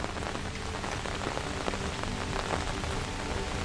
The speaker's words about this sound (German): Die feinen Tropfen verwandeln sich in einen stetigen Niederschlag, der auf deinen Schirm trommelt und die Umgebung in einen glitzernden Schleier hüllt.